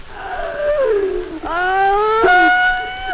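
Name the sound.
child crying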